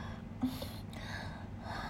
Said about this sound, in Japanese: また息切れてる。